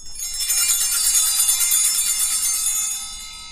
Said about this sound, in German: Also auf dem Altar, da wird das Abendmahl vorbereitet. Und dann, wenn das Brot hochgehalten wird, dann klingeln wir einmal. Und wenn der Wein hochgehalten wird, dann klingeln wir auch.